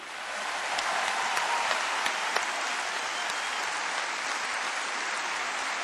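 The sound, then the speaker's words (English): Sustained audience applause for the musician Vincent Perani, a dense steady wash of many hands clapping at an even loudness for several seconds, with a few sharper individual claps standing out. “Et veuillez encore applaudir le musicien Vincent Perani.”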